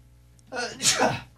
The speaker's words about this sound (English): Yeah, sneeze.